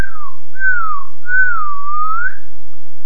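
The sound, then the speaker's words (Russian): A whistle made by drawing air in through pursed lips: three smooth, clear tones, the first short and dipping, the next two longer and gently gliding up and down in pitch, with no voices. “Как обычный свист, губы в трубочку, но воздух не выдуваем, а втягиваем.”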